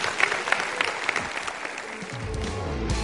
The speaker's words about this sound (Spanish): Amén, hermanos. Si Dios le habló, den un aplauso al Señor.